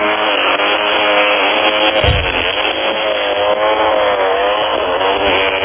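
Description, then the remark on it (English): Two vibrators buzz together in a steady, loud mechanical drone, their overlapping motor tones forming a dense, rough hum that runs unbroken throughout with no voices. “I will be playing dueling vibrators.”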